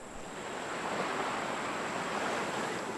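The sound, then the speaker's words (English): Ocean waves washing onto a white sandy beach in Tuvalu in a steady, continuous hiss that swells gently and then holds, with a faint breeze and no voices. “Turquoise water lapping white sandy beaches under deep blue skies.”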